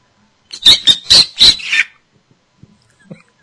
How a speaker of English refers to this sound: Oh, that bird sounds so delicious. Don't eat my bird.